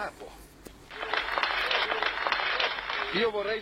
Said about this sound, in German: Danke für euren Applaus. Aber Vorsicht, sie schmeißen euch alle raus, wenn ihr mir applaudiert.